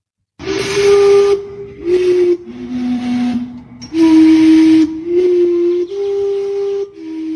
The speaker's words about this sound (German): Ja, das ist doch hier der Big Ben Sound, oder? Aber was pustet da? Und es ist mit Wind. Es hat irgendwelche Ventile, glaube ich. Es handelt sich um eine historische Dampfuhr, die, es gibt noch eine zweite, die steht in